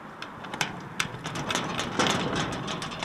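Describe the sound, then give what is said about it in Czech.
A locked metal garage gate is shaken and rattled repeatedly as someone tries to open it, with sharp clanks and clicks over a steady background hum, fairly loud, no one speaking. “Já jdu zkusit vzít za ta vrata a třeba vevnitř někdo bude.”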